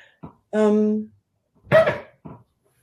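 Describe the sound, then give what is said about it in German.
A hotel room refrigerator makes a few short snore-like groans and rattles, one long humming drone followed by a rougher burst, fairly loud, with no talking. “Das war kein Hund, der bei mir geschnarcht hat, sondern das war der Kühlschrank, den bei mir im Hotelzimmer steht.”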